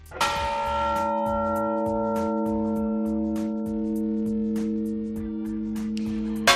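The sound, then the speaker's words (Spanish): A church bell tolls a death knell: one heavy strike whose deep tone hums on for several seconds, overlaid by a steady series of lighter metallic taps, with no voices. “Así era su toque a difunto. También las campanas tocaban a muerto.”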